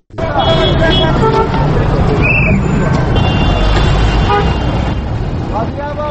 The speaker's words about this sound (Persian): این شهر کابل است، کابلی که در گذشته زندگی پر رونقی داشت، اما حالا ازدحام و وسایط مشکلات تازه‌ای به این شهر افزوده است. اما امروز فضای کابل را صدای موترها و فروشنده های دورگردی که نه تنها پیاده روها بلکه سرک ها را بازار ساختن پر کرده